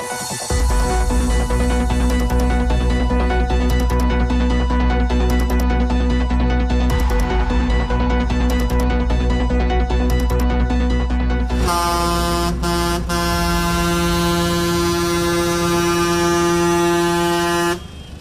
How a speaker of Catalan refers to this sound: Ja ho reconeixeu, aquest que sentiu són els tocs de botzina del tractor dels pagesos que avui de matí han fet sonar de manera simbòlica aquest clàxons i ho han fet en passar per davant de la fàbrica Agama de la carretera de Manacor a Palma.